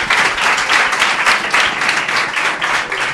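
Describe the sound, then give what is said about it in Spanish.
A crowd applauds steadily after a proposal to name a street after a woman, a dense wash of many hands clapping at once, fairly loud, with no talking over it for the whole stretch. “Oye, un aplauso, que mira qué bonito.”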